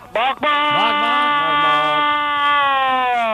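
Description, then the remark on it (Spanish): A truck driver calling into a Cadena SER radio show imitates a truck horn with his mouth: a loud, buzzy, sustained blare. After a brief stutter at the start, it holds for about three seconds, its pitch wavering slightly. “Que si toco la bocina del camión de verdad, el susto se te caen los pantalones y se te resquebrajan las gafas.”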